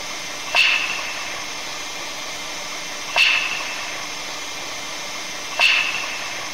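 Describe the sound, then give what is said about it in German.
Aurora borealis crackling recorded in Finland, caused by positive particles from above meeting negative particles near the ground: three sharp, bright pops with a brief ringing tail, spaced a couple of seconds apart over a constant steady hiss, with no voices. “Also nochmal, positiv von oben trifft auf negativ von unten und dann kommt es zum Knall.”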